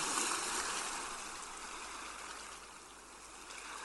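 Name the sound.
sea surf waves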